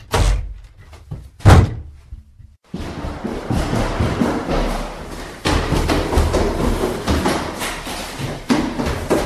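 Train doors closing before departure at a station platform: a few sharp door thumps and a slam ring out, a brief pause follows, then a steady rumble of the train setting off takes over with more clunks mixed in. No one speaks.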